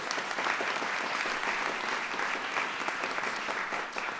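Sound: audience applause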